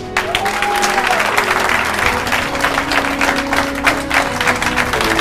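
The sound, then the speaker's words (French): A large audience applauds itself, clapping steadily and loudly throughout, a dense wash of overlapping hand claps with a few sustained tones humming underneath. “Applaudissez-vous vous-même!”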